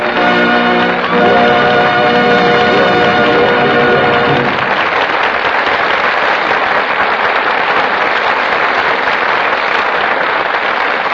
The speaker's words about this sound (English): Sure, we all agree that Myrna Loy and Don Ameche deserve every bit of the applause they're now getting. They did a truly splendid job.